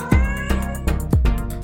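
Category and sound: animal, tomcat meowing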